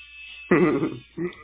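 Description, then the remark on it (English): A leaf blower's motor buzzes and whines outside during landscaping work, surging loudly for about half a second and then again briefly after a dip, over a low steady hum. “Oh, it's a leaf blower. I guess they're doing landscaping today.”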